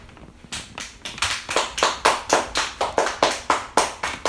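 A child claps hands in a steady run of about a dozen sharp claps, close and fairly loud, with no talking over them.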